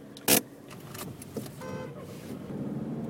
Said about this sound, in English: It just stalled the car. Now it's really struggling.